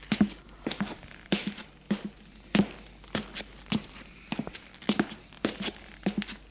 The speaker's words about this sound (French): Après avoir fermé la porte à clé de l'appartement, il descend les escaliers.